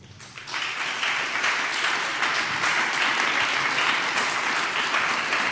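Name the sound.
audience applause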